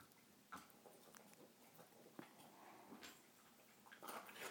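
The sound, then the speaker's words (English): A female dog crunches dry kibble, with irregular crisp cracks and crackles scattered over a few seconds, fairly quiet overall with a few sharper bites standing out. “Crunchy, crunchy. You probably hear those crunchy.”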